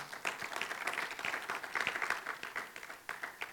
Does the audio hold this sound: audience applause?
yes